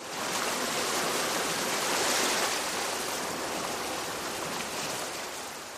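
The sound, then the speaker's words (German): Ocean waves wash continuously onto a beach, heard while falling asleep in a tent on the sand, in a steady, hissing roar that swells gently and then eases off. No voices are heard. “Und zum Einschlafen haben wir die Wellen gehört.”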